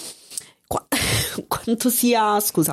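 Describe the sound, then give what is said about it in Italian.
A short, harsh cough and throat clearing from a person who has had a cough for weeks, followed immediately by a voice speaking. “Mi trascino un po' di tosse da settimane.”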